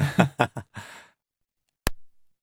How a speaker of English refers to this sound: Should we have the one without one first? Should we have this is a gunshot in an anechoic chamber, a room designed to have no echo. Bit of an anticlimax there.